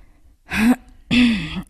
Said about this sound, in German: Kurz mal räuspern.